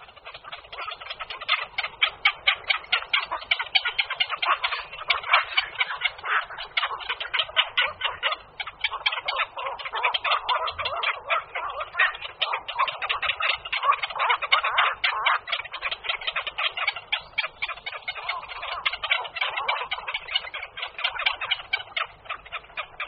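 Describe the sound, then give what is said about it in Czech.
Black-crowned night herons call in a dense, unbroken chorus of rapid, harsh chattering and clicking notes, many birds overlapping at a steady, loud level throughout, with no talking. “Kvakoš noční hnízdí pospolitě v koloniích, které jsou jak trvalé, tak příležitostně vznikající a znovu zanikající.”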